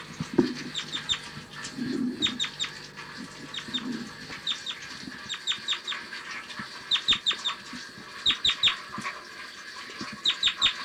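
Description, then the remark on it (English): A bird gives its typical flight call: repeated sharp, high chirping calls in quick bursts of two and three, clear, with a few low soft clucking sounds early on and a steady outdoor hiss behind. “Typical flight call.”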